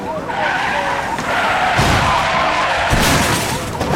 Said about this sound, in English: The police target the car and ram its back fender.